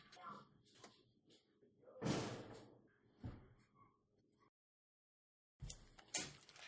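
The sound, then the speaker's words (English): A back door is opened with a loud clattering rush to let a dog out, followed by a couple of sharp knocks and thuds, with a brief silence before more clunking. Low indistinct voices murmur around it. “But she eagerly and excitedly runs out the back door and comes around to the screen door and is just sitting there staring at me.”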